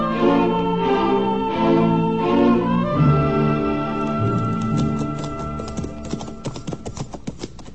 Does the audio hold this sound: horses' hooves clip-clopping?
yes